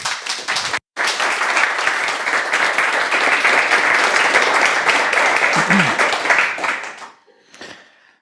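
Dense, steady applause from an audience welcoming a speaker, a continuous wash of many hands clapping for about seven seconds, briefly cut at the start, then fading out with a few scattered claps.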